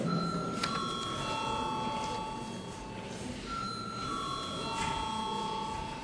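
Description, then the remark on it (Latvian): A parliamentary voting bell rings as a steady electronic tone for about six seconds, calling a vote on declaring a bill urgent. Its pitch shifts slightly partway through, over a low murmur of voices in the chamber. “Lūdzu, zvanu.”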